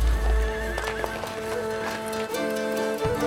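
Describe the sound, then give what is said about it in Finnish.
Hakkapeliitta cavalry horses whinny with loud, wavering high-pitched neighs, one overlapping another, over a steady rumble of galloping hooves and low thuds, with no talking, as the riders draw swords and ride into close combat in battle against Swedish conquerors. “Seuraavaksi he vetävät miekkansa esiin ja ratsastavat lähitaisteluun, lyöden oikealle ja lyöden vasemmalle.”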